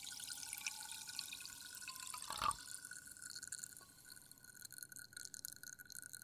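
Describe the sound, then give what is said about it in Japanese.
Sparkling water fizzes in a glass with a soft, steady crackle of bubbles, quiet, with one brief louder pour or splash partway through as it is slowly poured from one glass into another, and no voices. “後は炭酸の音を聞いてリラックスして寝る準備始めようね。”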